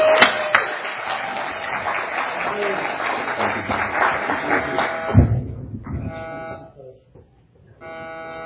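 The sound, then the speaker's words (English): A church audience claps steadily for about five seconds to welcome a visiting preacher and his family before the applause tapers off, leaving a few faint tonal hums and quiet background noise. “y'all give him a warm Christ Church welcome.”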